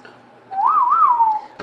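A single human whistle, clear, sliding up and wavering twice before trailing off over about a second, ending with a brief click.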